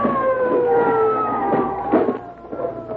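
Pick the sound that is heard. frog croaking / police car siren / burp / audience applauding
police car siren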